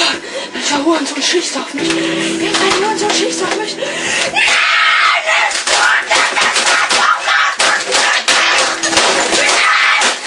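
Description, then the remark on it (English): Loud, frantic screaming and yelling over a rapid flurry of hard smacks and crashes as a student swears and furiously pounds and smashes a keyboard, continuous throughout. “I was thinking about suspending you for a week, but I had a video of you from last Tuesday swearing your mouth off and smashing a keyboard.”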